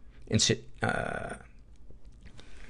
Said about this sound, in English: excuse me. That was a swallowed wrong, not a getting sick cough.